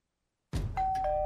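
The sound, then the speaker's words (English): A doorbell chimes a two-note ding-dong at a family's home, a higher bright tone followed by a lower one that rings on; no one answers. A low rumble of background noise sits beneath it, and no one speaks. “This family is at home, but they won't be answering the door.”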